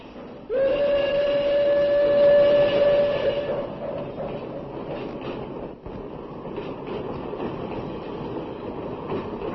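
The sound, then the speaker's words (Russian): A train rumbles steadily along the rails, loud, with a long whistle blast sounding over the clatter for the first few seconds before the rolling noise carries on alone. “был в поездах под охраной фашистов переброшен в Швейцарию.”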